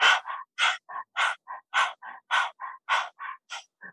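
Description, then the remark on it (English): Rhythmic dog-like panting done as a breathing exercise with the tongue stuck out: quick, breathy huffs alternating strong and softer, roughly three per second in a steady beat, with no talking over them. “Now keep that dog panting breath going.”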